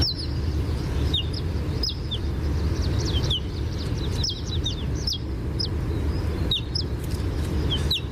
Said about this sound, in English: We actually have a recording here, Bob, of the ortolan bunting, which I'm just going to play.